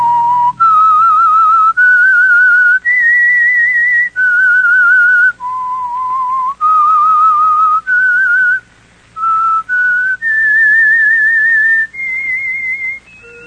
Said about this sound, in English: That whistle be your signal for the Signal Oil program, The Whistler. Each Monday at 9.